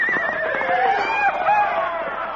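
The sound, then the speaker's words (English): A horse whinnies loudly and shrilly while bucking with a rider on its back, its wavering cry sustained for a couple of seconds, dominant over faint background noise. “Look at that horse. Oh, what's happened? He's bucking like a brame of bull.”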